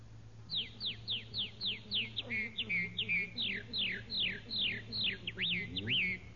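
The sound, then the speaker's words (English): A red-winged blackbird call, apparently imitated by a person whistling: a rapid series of about fifteen bright, downward-slurring chirps, fairly loud, over a faint low hum. “Red winged blackbird.”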